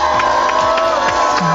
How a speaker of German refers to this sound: Das heißt, die Wette ist gewonnen. Hör mal hier den großen Jubel.